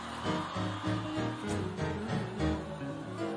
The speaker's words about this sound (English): Y'all are screaming too loud. Again, too loud.